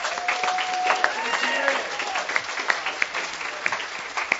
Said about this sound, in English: And I think he deserves a huge round of applause for what he's done for all of us.